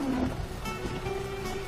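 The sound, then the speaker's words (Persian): Rain falls at night on the last day of the month of Mehr in a steady, continuous wash of hiss, even in loudness, with a low droning hum running underneath and no voices. “بارش رحمت الهی مهرورزی آخرین روز مهر را تکمیل و مردم و کشاورزان را شادمان کرد.”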